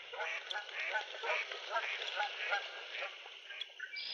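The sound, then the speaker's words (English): A big flock of geese honks continuously in overlapping calls, a dense chorus of many birds, steady throughout with no pauses, in October at a nature area with cattails and yellowing cottonwoods, set among housing developments and busy roads. “We just are watching a big flock of geese.”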